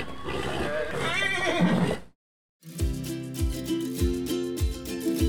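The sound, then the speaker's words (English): A loud horse whinny with a shaky, wavering pitch runs for about two seconds, then cuts to a brief silence before upbeat music with a steady thumping beat begins. “Next time I'm better on Silver Blur, who I've been told is the fastest asthmatic horse the world has ever seen.”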